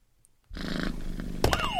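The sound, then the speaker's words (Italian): After a moment of silence, a cat starts purring, a steady, fluttering low rumble, joined near the end by a brief louder burst and a falling, higher-pitched sound. “Un gatto che ronfa. Sì, che ronfa e fa le fusa.”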